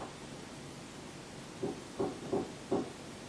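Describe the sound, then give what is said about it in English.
Four distinct knocks on a hard surface in the shave-and-a-haircut rhythm, moderately loud, evenly spaced after a quiet start, with no talking. “Do you know the shave and a haircut?”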